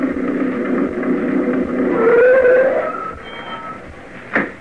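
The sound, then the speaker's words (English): The Martin family pulling up in Sam's old truck at a general store in the country: the engine rumbles and whines, its pitch rising briefly as it rolls up, then settles down and ends with a short, sharp squeak. “Jed Parsons and I were sitting on the porch of his general store one day when the Martin family pulled up in Sam's old truck. We could have heard it coming a couple of miles away.”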